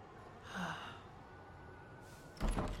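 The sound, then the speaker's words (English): A soft breathy exhale, then a short pause before a single muffled thunk as a man unlocks and pushes open the door of his house, heard quietly with no talking. “He almost saw me when he turned to unlock the door.”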